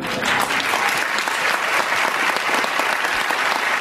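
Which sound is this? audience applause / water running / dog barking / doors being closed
audience applause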